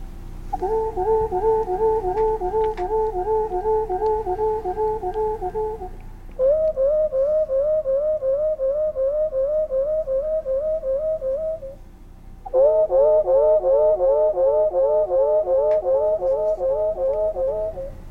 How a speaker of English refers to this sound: That was really wonderful. That's the song of the wood thrush.